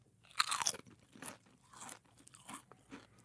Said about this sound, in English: I have 2 different potato chips in front of me right now, chip A and chip B. Okay. And I want you to tell me, based solely on the sound of the crunch, which chip is fresher, crisper, better.